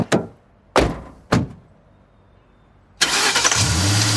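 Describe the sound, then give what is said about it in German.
Three heavy car door thunks, then after a short pause a car engine starts with a loud roar and keeps revving steadily as it pulls away to drive quickly through the city. “Mit erhöhtem Tempo fahren sie los durch die Stadt zum Elysium.”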